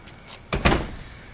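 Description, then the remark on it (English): A basement door is pulled open with a solid clunk followed quickly by a second heavier knock and a brief rattle, with no voices. “Now, where's the door to the basement?”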